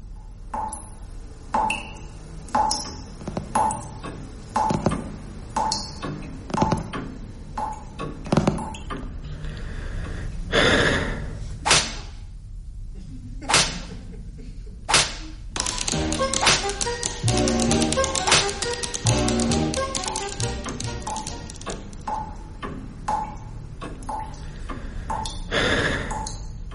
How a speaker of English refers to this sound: So it's tap, dripping, clocks and... It's a play. It's a play. It's not Beckett, then? It is Beckett.